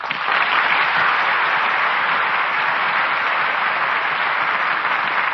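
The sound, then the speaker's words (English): Sustained, dense applause from a studio audience for Al Jolson and Gail Patrick at their curtain call after a radio performance of The Jazz Singer, a steady roar of many hands clapping at an even loudness throughout, with no voices breaking through. “And that applause will assure you both how much we enjoyed tonight's performance.”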